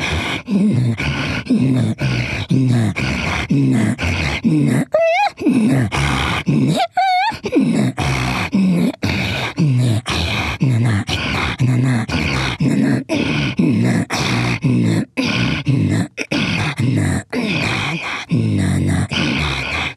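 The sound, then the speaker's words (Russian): A vocalist performs a rapid, rhythmic Chukchi throat-singing pattern of raspy wheezes and guttural grunts, continuous, imitating the snorting breath of a running reindeer, with brief whistling pulses midway. “Очень долго можно это делать, потому что это подражание именно оленю, да, олень. То есть олень, который вот храпит, вот идет, бежит и храпит.”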